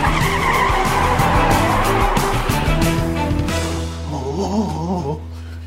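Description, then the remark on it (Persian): A car revs hard and peels away with loud, squealing tire skids, the screech wavering in pitch before the engine note settles into a steady drone as it speeds off, carrying a man who threw himself into it to flee three pursuing officers. “بالاخره به ماشین میرسه، خودشو پرت میکنه تو ماشین و فرار میکنه.”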